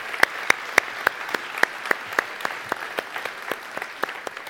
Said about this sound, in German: Super. Ein Applaus an euch. Sehr gut, danke.